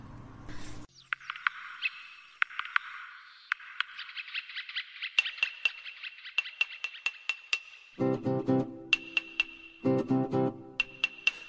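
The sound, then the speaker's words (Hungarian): An instrumental opening to a Hungarian children's song about a woodpecker and a worm: a sustained high whistling tone with rhythmic, woodpecker-like knocking taps, then buzzy, croaking bursts near the end. No one speaks. “Most hallgassunk meg egy dalt a harkályról és a féregről.”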